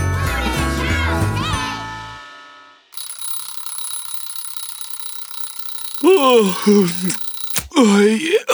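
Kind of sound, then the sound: household object, alarm clock ringing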